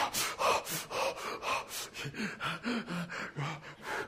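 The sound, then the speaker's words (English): Rapid, heavy gasping breaths, about a dozen in quick succession, fairly loud with a steady panting rhythm and no talking, from the initial shock of getting into cold water. “Oh, it's pretty nice, you know, after you get over that initial shock and the heavy breathing thing, you know.”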